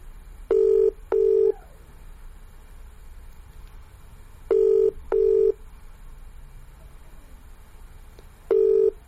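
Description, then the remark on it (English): A VoIP ringback tone from calling someone on GW Connect repeats three times, each ring a double burst of steady electronic tone with gaps of quiet in between, clear and fairly loud over faint background hiss. “So to call somebody on GW Connect, you would use the hotkey Control L, and you will hear the following. Calling. It's a ringing tone.”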